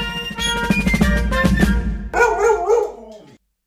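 A dog barks and yips over a bright musical jingle introducing the 'Wuff der Woche' segment, the music carrying steadily for about two seconds before sharper, excited barking sounds take over, then it all stops abruptly.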